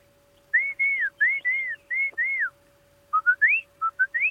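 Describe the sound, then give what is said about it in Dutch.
A person whistles an imitation of a song thrush: a run of clear, arched notes repeated several times, a brief pause, then a series of short rising whistles, fairly loud. “Maar een zanglijster doet altijd van...”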